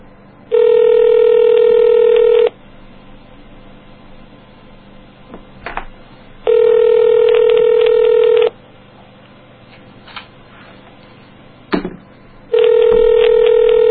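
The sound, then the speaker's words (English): A phone line ringing out on an outgoing call: three steady, loud buzzing ringback tones, each about two seconds long, separated by quiet four-second gaps with faint clicks and line noise. “It's ringing.”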